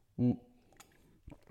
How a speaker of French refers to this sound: excuse-moi, je me prends une petite gorgée.